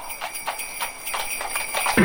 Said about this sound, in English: Hello, horse. Hello.